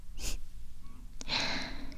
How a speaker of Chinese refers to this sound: 怎么学长喘成这个样子呀？